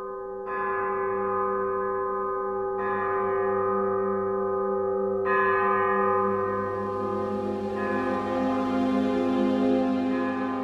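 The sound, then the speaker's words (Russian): Church bells ring out loud, with four strong strikes about every two and a half seconds, each leaving a long shimmering hum that overlaps the next. No one speaks. “Колокольный звон, белый снег кружит, ветра трубный стон, ворон зло кричит.”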